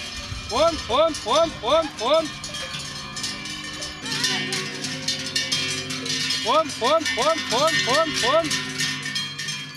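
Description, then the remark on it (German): Many cowbells clank in overlapping, irregular bursts as a herd of 28 cows moves along during the Alpaufzug, the drive up to the alpine pasture, with the ringing swelling and fading in waves over a steady outdoor background rumble. “Endlich sind die Glocken umgebunden und die Herde ist auf der Strecke.”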